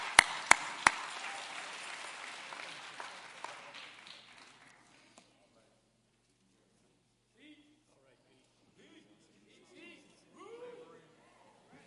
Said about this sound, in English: Let's give it a hand clap. Amen.